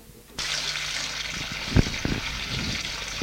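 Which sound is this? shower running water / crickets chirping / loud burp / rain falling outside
shower running water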